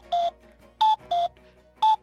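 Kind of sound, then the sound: bird, cuckoo calling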